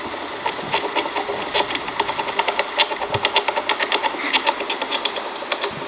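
Rapid, regular wooden tapping of a great spotted woodpecker, a steady stream of sharp knocks continuing for several seconds over a constant hissing background, like rushing water.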